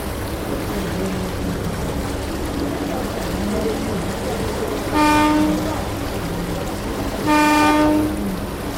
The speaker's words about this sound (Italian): Siamo sulle rive del Rodano, nel centro storico di Lione, e ci imbarchiamo sul vaporetto, la navette fluviale. La destinazione è il punto d'incontro del fiume con la Saône, la Confluence, luogo simbolico della città.